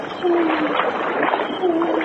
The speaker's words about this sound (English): At others we had to wade, stumbling over moss-covered rocks. Our actions had become so automatic that we became careless. We were wading through ankle-deep water at the time.